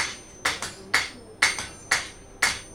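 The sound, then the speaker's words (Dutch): A blacksmith's hammer strikes metal on an anvil in a steady rhythm, about twice a second, each ringing blow often followed by a lighter bounce tap, forging during a smithing course to draw a square bar out into a round point, with no talking. “En dan niet de hamer neerleggen, maar meteen doorgaan.”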